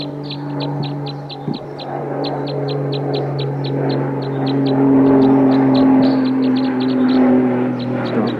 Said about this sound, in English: Recording, this is bird 258 calling loud. Sounds like it.